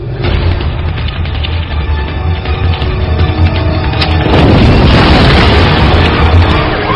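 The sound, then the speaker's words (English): A huge, sustained explosion of a benzene fire, a major ignition in the 6,000 block of San Alameda, roars with deep rumbling bass and dense crackling, surging louder around the midpoint and staying thunderous throughout, with no voices heard. “All engines confirm report of major ignition, 6,000 blocks of San Alameda.”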